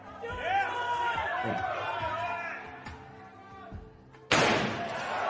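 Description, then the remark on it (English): A sledgehammer bangs against a regular steel truck door in a few heavy thuds while a crowd chatters, ending in a sudden loud burst of noise. “It's a regular truck door.”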